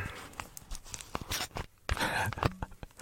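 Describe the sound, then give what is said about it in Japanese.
The cap of a plastic Canada Dry tonic water bottle is twisted open, giving a run of small crackling clicks and snaps over about three seconds, with no fizzing hiss because the tonic water has gone completely flat. “今ね、トニックウォーターのペットボトルを開けたんですけど、もうプシュッっていう音の一つもなかったね。”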